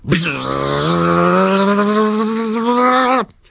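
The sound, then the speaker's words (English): A voice imitates a chainsaw in a shed being started with its starter and roaring to life: a loud, steady buzzing drone that climbs slightly in pitch and holds for about three seconds before cutting off abruptly. “Just then, in the shed, Diggins pulled the starter on his chainsaw, and it roared into life.”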